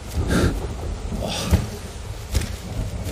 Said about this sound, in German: Ich will hier nicht ertrinken im Regen.